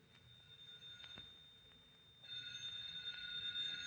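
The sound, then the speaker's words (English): A telephone starts ringing partway through, a bright, sustained electronic ring over faint background hiss, growing steadily louder with no voices. “Phone's ringing.”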